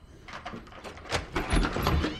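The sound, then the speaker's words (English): A door opens with a rough, scraping slide and a low rumble, building in the second half before a brief clunk, as a man appears at the door; no voices. “Ming appears at the door.”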